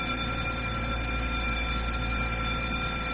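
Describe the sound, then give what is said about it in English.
A bell rings continuously without a break, a steady, loud, buzzing metallic clang that holds the same pitch and volume throughout, with no voices. “The longest bell I ever heard.”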